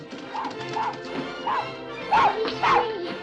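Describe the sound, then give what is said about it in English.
A small terrier, Bobby, barks repeatedly in quick, excited yaps, about six or seven in a row, the last few louder, as he runs for the door of a courtroom with children chasing after him. “The terrier runs for the door, and the children chase after him excitedly.”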